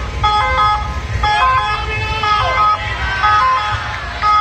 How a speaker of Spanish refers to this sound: Los viandantes que pasaban por la zona se alertaron al ver una ambulancia con las señales luminosas y sonoras encendidas a las puertas de la parroquia.